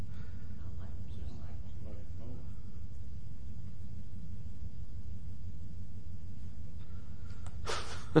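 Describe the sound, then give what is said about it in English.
An air conditioner fan out in the back rumbles with a steady, low mechanical drone like a threshing machine, holding unchanged for the whole stretch. Faint, indistinct voices come briefly at the start, and a short sharp noise comes at the end. “Is that the fan on the air conditioner?”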